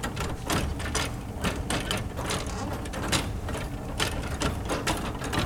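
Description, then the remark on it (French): Pipe organ key action clattering with no pitched tone as keys on one of its 51-key manuals are played: a steady stream of soft wooden clicks and knocks, irregular and fairly quiet, over a low rumbling background hum. “Alors, si je joue sur un clavier, pour le moment, vous voyez, on entend un petit peu le bruit de la mécanique.”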